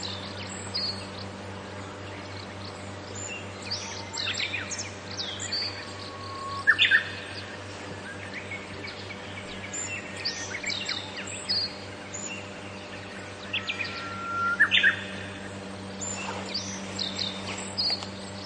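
Several birds chirp and sing in an overlapping early-morning chorus at 5:04 a.m. at a roadside rest station (michi no eki) in the Hokkaido wilderness, Japan, with bright, busy calls over a steady low background hum, and no one speaking.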